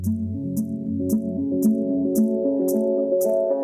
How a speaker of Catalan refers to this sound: Doncs anem a escoltar l'àlbum … del 2014, d'aquests …, amb la cançó …